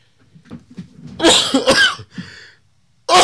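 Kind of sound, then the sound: human body sound, sneeze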